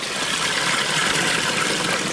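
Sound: water flowing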